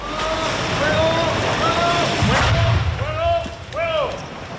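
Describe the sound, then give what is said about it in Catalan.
A single muffled underwater blast erupts midway as a deep, rumbling thud. An 81 mm mortar shell is detonated in the water a few metres from the shore at Calablanca beach by the Spanish Navy's diving unit at noon. Wind noise, surf and high bird-like calls surround it. “L'artefacte ha estat desactivat a les 12 del migdia per la unitat de busseig de l'Armada Espanyola que l'ha fet explosionar dins l'aigua a pocs metres de la vorera, on s'ha pogut veure i sentir aquesta explosió.”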